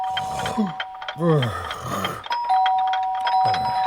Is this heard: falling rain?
no